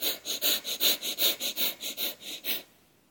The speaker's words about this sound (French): Tu entends les bruits que je fais? C'est ce que tu cherches à reproduire avec ta respiration. Inspire, gonfle le ventre. Et viens rentrer très vite ton ventre pour laisser sortir absolument tout l'air que tu as.